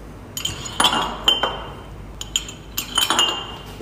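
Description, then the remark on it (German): Glass bottles clink and knock as they are set down on the rinsing station of a bottle-filling table, where small lances rinse them with water, a series of bright, ringing clinks in an irregular rhythm, with no voices. “Also im ersten Schritt stelle ich jetzt die Flaschen hier auf die Spülstation drauf.”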